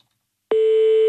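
After half a second of silence, a steady electronic telephone tone switches on abruptly and holds at an even, fairly loud level, as the France Bleu Alsace switchboard dials a phone number in Bischofsheim. No voices.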